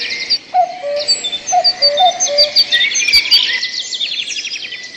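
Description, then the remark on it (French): Several birds chirp and trill over each other in a dense, continuous chorus of high, quick notes, with a few lower whistled calls threading through, in a garden. No voices are heard. “Certains jours, tout au bout du jardin, elle parle à ses volatiles.”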